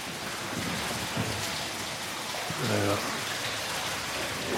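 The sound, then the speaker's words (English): Steady rush of splashing water fills the whole stretch: a waterfall pouring down through a hole into a flooded inner chamber of a cave, with a brief murmur of voices partly buried beneath it. “Effectively, we're in an inner chamber now, which is flooded, and there's a waterfall coming down to the left of us through one of the holes.”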